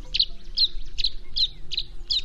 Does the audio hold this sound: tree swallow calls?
yes